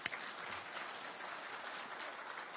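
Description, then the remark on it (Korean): An audience bursts into applause for the P53 gene, a dense, steady patter of many hands clapping at an even loudness for a couple of seconds, with no one speaking over it. “자, P53 유전자 위에서 박수 한번 쳐주세요.”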